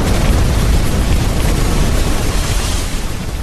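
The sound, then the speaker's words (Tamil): A loud, sustained explosive roar and rumble fills the whole stretch as aircraft parked at an airbase explode, scatter and burn, the massive blast continuing to crackle, gradually easing slightly at the end with no voices. “சண்டை தொடங்கி கொஞ்ச நேரத்திற்குள் விமான தளத்தில் நின்ற விமானங்கள் பெருமோசையோடு வெடித்து சிதறி எரிந்து கொண்டிருந்தன.”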